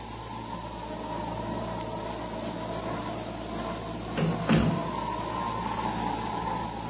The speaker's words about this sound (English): The doors go shutting far in the distance, gently knocking like the pulse of a heart.